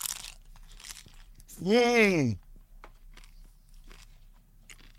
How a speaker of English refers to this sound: Now you're going to have a nice little crunch bite of it.